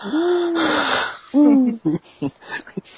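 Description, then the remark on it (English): A person gives a soft, drawn-out wrestling-style 'woo' call, owl-like and hooting, kept quiet, then a second shorter one, followed by a few brief muffled bits of speech. Fairly subdued. “I would do a woo, but I gotta keep it down.”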